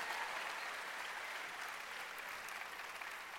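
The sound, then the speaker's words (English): An audience at CA church claps together during a sermon, steady, dense applause that holds at an even level for a few seconds, with no voices rising above it. “Now our purpose, you can clap.”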